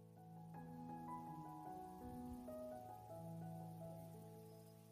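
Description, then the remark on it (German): A soft, steady babbling of a brook runs throughout, a gentle continuous trickle beneath slow, sustained tonal chords that shift every second or so. No one speaks. “Höre das leise Plätschern des Baches im Hintergrund.”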